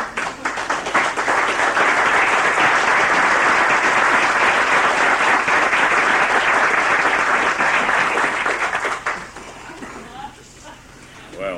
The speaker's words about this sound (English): It's a great melting pot, and I would like the Senate to rise and applaud our birthday gentleman today with best wishes for many more to come.